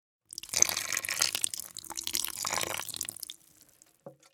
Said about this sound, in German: Wenn es lange nicht regnet, bekommen sie nicht genug Wasser. Dann kannst du sie gießen. Mit meiner kleinen Gießkanne.